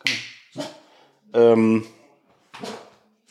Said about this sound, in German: Und jetzt bellen sie.